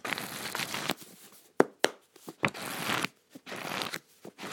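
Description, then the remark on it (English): Crisp paper rustling as the pages of a paper book are handled and flipped, with a few sharp snaps between stretches of soft crinkling and shuffling. No one speaks. “It's paper. A proper book.”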